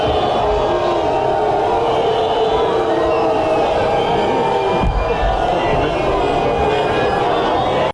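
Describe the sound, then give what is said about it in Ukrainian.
A large crowd on the seafront in Nice shouts and jeers at French Prime Minister Manuel Valls and local politicians, calling on them to resign, at a memorial ceremony for victims of the 14 July attack: a continuous, loud roar of overlapping voices, with jumbled calls rising above the steady din throughout. “На адресу прем'єра і місцевих політиків звучали глузування і заклики подати у відставку.”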